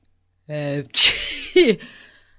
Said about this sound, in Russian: Громко чихнул Гун. «Сэр, я...» «Отправляйтесь домой, Гун, и ложитесь в постель», — сказал Дженкс. «Вы здорово простужены».